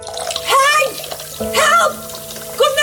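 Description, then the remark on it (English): Water gushes and splashes steadily throughout, a continuous hissing flow flooding the whole kitchen floor from a blocked kitchen drain, while agitated voices speak over it in short bursts. “In de keuken. Heel de vloer staat onder water.”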